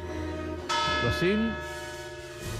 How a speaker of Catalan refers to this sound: Mira, les campanes. Que soni. Que soni. Au.